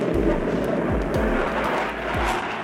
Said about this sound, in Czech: Z budovy stoupá hustý dým a z oken v prvním patře šlehají plameny. Přidává se dělostřelectvo, ozývají se výbuchy a střelba.